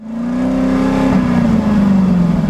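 car engine revving

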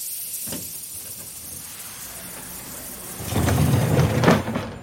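train pulling into station

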